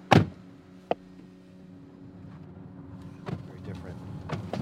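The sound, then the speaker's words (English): A loud car door thud, then a sharp click, followed by a steady low engine rumble that builds as the car drives off from an encampment back onto a bridge, with faint muffled voices in the background. “We left the encampment, got in our car, and went back onto the bridge.”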